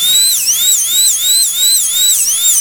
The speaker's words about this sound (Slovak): Prvú elektrickú zubnú vŕtačku.